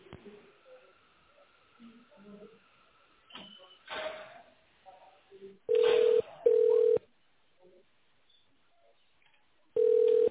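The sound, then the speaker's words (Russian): Loud touch-tone keypad beeps over a thin telephone line, dialing an internal extension in tone mode after an automated greeting: two steady tones in quick succession, then a third after a pause, following faint murmured talk and rustling. “Если вы знаете внутренний номер нужного вам сотрудника, наберите его в тональном режиме или дождитесь ответа оператора.”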